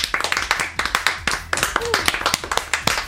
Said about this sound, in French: On les applaudit très très fort, c'est l'équipe du Malade Imaginaire en la majeure.